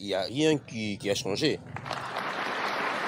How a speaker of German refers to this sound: Heute vor 60 Jahren galt dieser Applaus dem damaligen belgischen König Baudouin. Der war in den Kongo gereist, um die belgische Kolonie in die Unabhängigkeit zu entlassen.